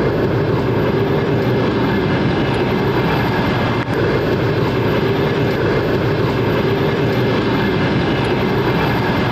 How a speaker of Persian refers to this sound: این همون قطاری است که حالا در به اسگاه تورسونزاده آمد و ما حالا در اسگاه راه آهنی تورسونزاده 60 کیلومتری شهر دوشنبه قرار داریم